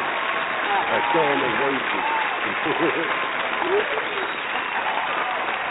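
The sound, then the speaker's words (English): An audience applauds a testimony given on air, with dense, steady clapping that holds at an even loudness for about six seconds, with a few voices calling out faintly underneath. “We're going to give you a hearty applause for that, for coming on the air.”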